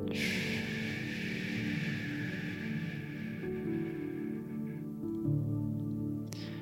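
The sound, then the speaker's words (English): During a guided breathing exercise, a long, slow breath is pushed out through the mouth for a count of ten, a soft airy whoosh that fades over a few seconds, with a steady low hum underneath and no talking. “So feeling our belly rise for a count of five. I want to pause at the top for a count of five. And then breathe out through our mouth for a count of 10.”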